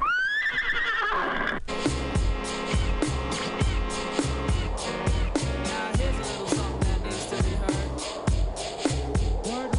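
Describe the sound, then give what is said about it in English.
A sick horse gives a loud, wavering whinny at the start, then it cuts off as upbeat music with a steady, driving beat takes over for the rest. “By morning, the poor horse was terribly sick.”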